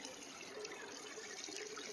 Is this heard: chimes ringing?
no